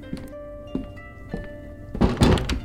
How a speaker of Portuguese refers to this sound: Se retirem e fechem a porta.